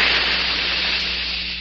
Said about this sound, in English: That jet of fresh, pure moisture stands for the new freshness, new taste in the new, all-new Rolly 903 cigarette. It's moisturized to stay fresh longer.